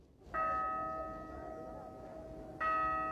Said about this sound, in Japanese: 4時か。この鐘の音は便利だね。 ここは時間の感覚が薄れますからね。